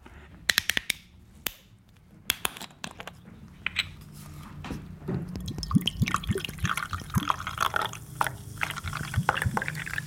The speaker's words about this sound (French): Alors là, juste au son, est-ce qu'il y a un bruit qui vous donne une indication ? Oui, c'est une boisson gazeuse. Oui, parce qu'on entend le bruit des bulles.